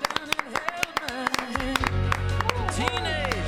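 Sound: applause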